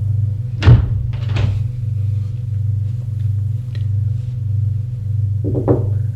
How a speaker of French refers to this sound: La porte s'ouvre. C'est le commissaire.